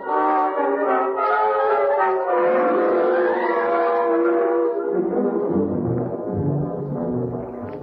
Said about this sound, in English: that siren means they're searching for me.